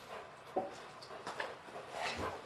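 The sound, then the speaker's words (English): A yellow Labrador Golden Retriever cross dog on a leash, being told to sit, gives a few short, faint barks mixed with soft whimpering, with no one talking. “All right, big dog.”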